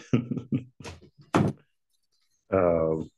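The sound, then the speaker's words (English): A door shuts with a single solid thunk, surrounded by people talking. The voices pause briefly after the bang before someone speaks again. “All right, close the door.”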